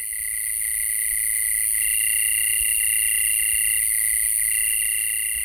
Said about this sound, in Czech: Rychle nad Lusaku padá tma, do tlumeného hluku večerního provozu se stále hlasitěji projevují cvrčci.